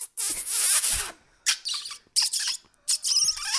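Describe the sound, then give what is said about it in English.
A person imitates a fox call with high, shrill squeaks: one long squealing burst followed by three shorter squeaks with brief gaps, fairly loud, without any talking. “And then all the crowd could just make a fox noise when they're in the audience.”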